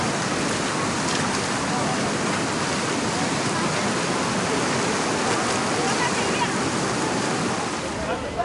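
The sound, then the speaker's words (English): Loud, steady rush of the fast-flowing Ganges river at the town of Gangotri, a dense continuous roar of churning water, with no breaks or changes over the whole stretch. “My first touch of the Ganges silt.”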